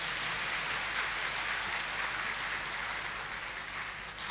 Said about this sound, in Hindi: ताली बजाओ जरा अच्छी तरह से।